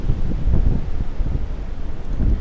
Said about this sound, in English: You can hear the waves. Hearing the waves, I'm sure. Hitting the cruise ship, the Holland Westerdam.